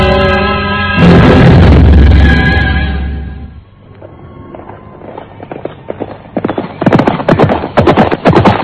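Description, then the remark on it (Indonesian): A loud, tonal burst fades into a dense drumming of the hooves of hundreds of galloping horses heading this way, the rapid overlapping beats swelling steadily louder toward the end. “Coba dengar, ada derap ratusan ekor kuda menuju kemari, Kakang.”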